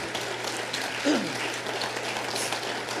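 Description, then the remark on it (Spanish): Steady, dense applause for the Lord from a large crowd fills the whole stretch, a continuous wash of many hands clapping at moderate volume with a brief voice or shout rising partway through. “Dale un fuerte aplauso al Señor y dale toda la gloria.”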